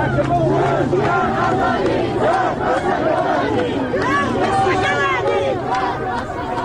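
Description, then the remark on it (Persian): At the burial of Kamal Ahmadpour, who was shot dead by Islamic Republic agents, a large crowd shouts anti-government slogans in unison. The chanting is loud and continuous, with many voices rising and falling in rhythmic phrases over a dense background of crowd noise. “در مراسم خاکسپاری کمال احمدپور که روز جمعه دیروز با شلیک مستقیم گلوله ماموران جمهوری اسلامی کشته شد، مردم علیه حاکمیت شعار دادند.”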